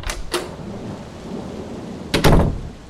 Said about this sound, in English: But the rain was so loud, the kind of loud that drowns out your own thoughts.